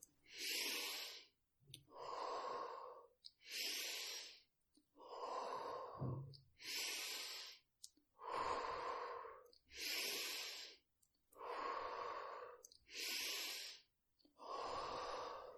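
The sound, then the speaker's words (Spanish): Deep, forceful breaths repeat in a steady rhythm, each deep inhale and exhale a loud, airy rush with brief pauses between, the last ten breaths, about ten cycles in all and no talking. “Diez últimas respiraciones. Intenta darlo todo. Inhala profundo, exhala.”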